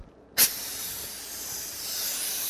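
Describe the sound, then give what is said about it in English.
A dental drill fitted with a round burr, used to remove decay at the start of a root canal, starts abruptly and runs steadily as a high, airy hiss with a thin whine on top, continuing unbroken to the end with no talking. “I think I'll use my round burr for that.”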